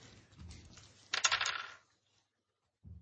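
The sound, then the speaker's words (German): A short rattling clatter of dice rolled across a table, sharp for about half a second, with softer low knocks before it and one brief thump afterward. “Nee, weißt du, wir machen jetzt einen Wurf für die Hörer und für nächstes Mal besorge ich mehr Würfel, weil sonst haben wir zu oft die gleichen Ergebnisse und das ist dann langweilig für mich.”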